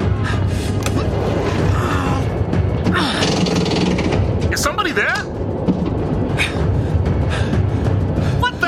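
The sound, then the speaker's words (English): A train's emergency brake, activated on a moving train, grinds on with a loud, sustained metallic screech and heavy low rumble, squealing tones rising and falling throughout, with muffled voices mixed in. “I've activated the brake on the train.”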